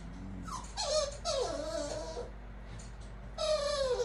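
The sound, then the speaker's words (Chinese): A dog whimpers and whines in high, wavering cries, two drawn-out bursts separated by a brief pause, over a low steady hum. “我们家狗狗好像饿了，你知不知道他们都是吃什么长大的？”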